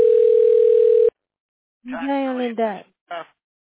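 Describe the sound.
A steady, unbroken telephone dial tone hums for about a second while a call to a tax specialist is dialed, then cuts off abruptly. After a short silence, a person speaks briefly.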